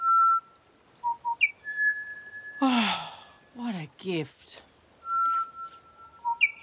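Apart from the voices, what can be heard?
bird singing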